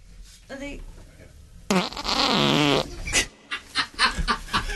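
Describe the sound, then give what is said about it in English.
A loud fart into a microphone in a radio studio rips out for about a second with a buzzing, wavering tone, followed by bursts of laughter and snickering from people. “Oh, you need to fart.”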